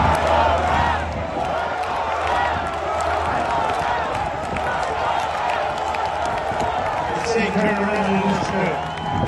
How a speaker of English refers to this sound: Listen to this crowd.